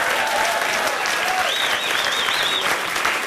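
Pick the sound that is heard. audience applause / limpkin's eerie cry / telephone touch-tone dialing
audience applause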